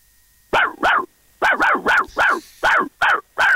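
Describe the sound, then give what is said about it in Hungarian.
A listener imitates a dog's barking, with about eight sharp, yappy barks in quick pairs and runs, loud, with no other talk. “Jó, egyébként figyelj, ez, hogy a hallgatók ugatnak, én szeretem.”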